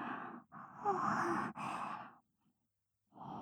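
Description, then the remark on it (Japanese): A person yawns once, fairly loud: a long, breathy, drawn-out voiced exhale lasting a couple of seconds, then a short pause before another breath begins. “ご主人様にあくびを聞かせてしまうなんて。”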